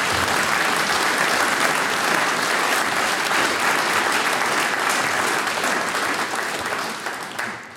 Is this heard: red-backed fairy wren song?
no